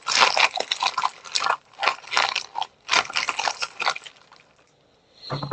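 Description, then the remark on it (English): Loud crunching and crinkling of a snack bag picked up by a microphone, in irregular bursts, with brittle rustles and chewing crunches coming in clusters, then a brief quieter pause before more rustling. “Oh yeah, we could hear that crunching. We can hear your mic's picking up real well. We hear the bag.”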